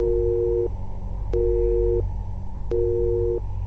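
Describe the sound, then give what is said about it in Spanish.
A telephone busy signal after the caller on the other end hangs up beeps three times in a steady on-off rhythm, each tone lasting about half a second, over a low background hum with faint clicks between beeps. “«De nada», dijo y colgó.”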